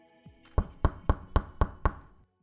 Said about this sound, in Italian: Poco dopo l'abbandono del compositore originale, un giovane vestito da rockstar bussa infatti alla porta dell'ufficio.